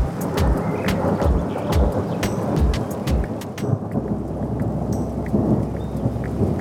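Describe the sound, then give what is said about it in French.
A thunderstorm breaking in the forest of Mervent, with steady, heavy rain hissing and deep rolls of thunder rumbling through, punctuated by sharp crackling drops and a few louder bursts. “Un jour que Pierre arpente la forêt de Mervent, son carnet de notes à la main, un terrible orage éclate.”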